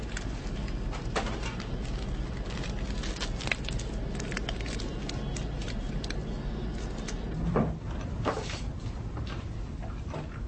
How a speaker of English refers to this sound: The door sticks just a sec.